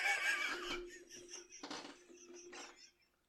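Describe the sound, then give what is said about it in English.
A person imitates a horse whinny: a loud, breathy, wavering call that breaks into several shaky bursts over a few seconds, sounding somewhat laugh-like before trailing off. “That's a fucking horse.”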